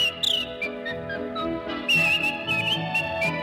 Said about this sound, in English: With a yodel like a church bell's chime. Yodel, and a whistle bright as polka time.